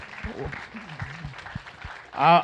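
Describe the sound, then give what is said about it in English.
An audience claps steadily but fairly modestly for the chaperones of a youth group's week-long trip, a dense patter of many hands throughout, while a man speaks over it and a brief loud vocal outburst rises near the end. “I don't think that was good enough of an applause.”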